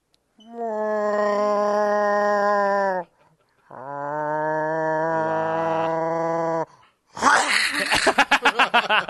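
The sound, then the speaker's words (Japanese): A person imitates a cat with two long, drawn-out yowling wails, a short pause between them, followed by a harsh, hissing, sputtering burst that pulses rapidly before cutting off. “猫のものまねです。”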